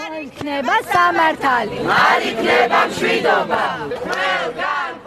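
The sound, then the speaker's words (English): A crowd of protesters shouting outside the constitutional court in the Black Sea town of Batumi, western Georgia: loud overlapping raised voices surging in rhythmic bursts of chanting that carry on without pause for several seconds. “A group of protesters are shouting outside the constitutional court in the Black Sea town of Batumi, western Georgia.”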